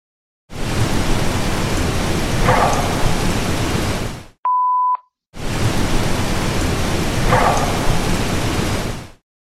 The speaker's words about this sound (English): The wood knock you can hear. The wood knock is closer than the car. Yeah. So I'll go ahead and play the wood knock two times.